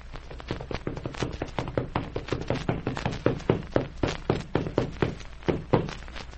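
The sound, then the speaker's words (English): Horses ridden by boys gallop up in front of a sheriff's office, their hooves pounding out a fast, steady rhythm of hollow thuds, fairly loud, continuing throughout with no voices. “Now, as the scene opens today, the boys are on their horses and they're just galloping up in front of the sheriff's office where the jail is located.”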